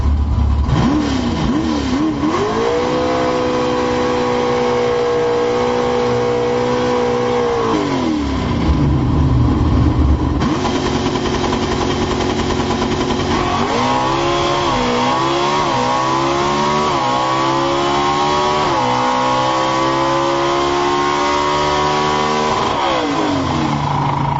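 A Cagnazzi Racing COPO drag racing car engine, heard from inside the car, revs hard and climbs through a series of gear changes, each shift dropping the pitch before it screams upward again, with no one speaking.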